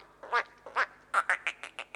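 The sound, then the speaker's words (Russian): Frogs croaking: a run of about eight short, rasping, duck-like calls, spaced irregularly at first and then coming faster and more evenly, moderately loud with no voices. “Нет, это лягушки, сказала опять девочка.”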